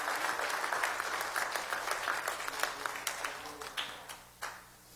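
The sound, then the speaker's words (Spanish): An audience breaks into sustained applause for God, many hands clapping in a dense, crackling wash that slowly thins out toward the end, with a few last scattered claps. “Si usted cree que ese es el Dios que usted sirve, dele un aplauso, porque Él está en este lugar para bendecirte.”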